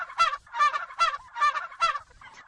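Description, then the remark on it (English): A farm-raised turkey gobbles repeatedly in quick, rippling bursts, about five rapid warbling calls in a row, loud with no talking, on a turkey farm outside Monticello, Illinois. “Connie and John Caveney had been raising turkeys, turkeys allowed to express their full turkeyness, on their farm outside Monticello, Illinois, for more than a decade”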